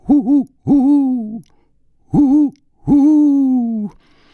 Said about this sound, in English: The eerie stillness started to awaken all the dogs. The owls.